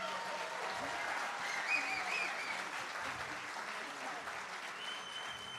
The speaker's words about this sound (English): And we are on TV today, right? They're recording today, so let's give a big round of applause for the TV show, the TV that we're here.